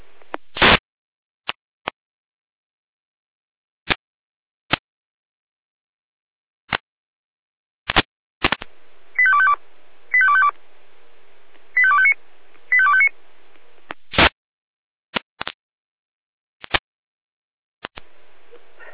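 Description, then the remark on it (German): Alarm call tones from the Jena dispatch centre (Leitstelle Jena): four short electronic tone bursts in two pairs, set among sharp radio clicks and squelch pops, with a faint hiss underneath and no talking. “Leitstelle Jena Alarmruf.”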